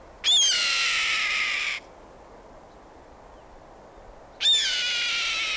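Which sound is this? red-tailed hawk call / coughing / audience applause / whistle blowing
red-tailed hawk call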